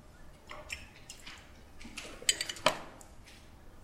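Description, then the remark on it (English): Two or three bright clinks of a new glass beaker holding plain water being set down, one ringing briefly, amid soft handling and faint watery sounds, with no talking. “New beaker.”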